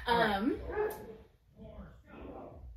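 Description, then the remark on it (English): A new puppy yips and whines, starting with sharp, high-pitched barks that slide into whimpers, followed by softer, quieter whimpering. “So Jess got a new puppy.”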